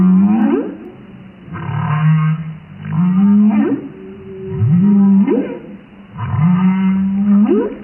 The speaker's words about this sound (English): Just on a daily basis, I'll hear humpback whales.